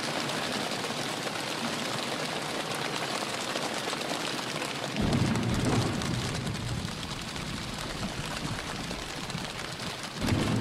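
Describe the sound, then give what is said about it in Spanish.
A choir imitates a rainstorm with their mouths, hands and legs, striking their own bodies: a dense, steady patter like heavy rain, broken by deep rumbling thumps midway and again at the end. “Un coro de personas que con sus bocas, sus manos, sus piernas, se golpean contra su propio cuerpo y hacen este sonido,”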